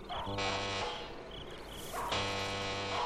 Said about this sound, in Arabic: هذا هو بيت الحاج مرتضوي، لأدق الجرس.